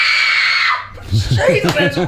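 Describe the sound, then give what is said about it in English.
A loud, piercing, terrifying human scream, given on request for Halloween, held for nearly a second, then breaking off into a voice talking or laughing with rising and falling pitch. “Could you just give us a scream, like a really terrifying scream now?”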